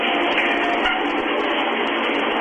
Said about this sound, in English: it's supposed to be a shower